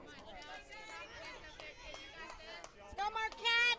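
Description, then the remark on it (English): Crowd chatter at a softball game at Gordon Moore Park, with fans of both sides well represented: many overlapping voices in a steady murmur, with a few louder calls rising out of the babble toward the end. “Real nice crowd here today.”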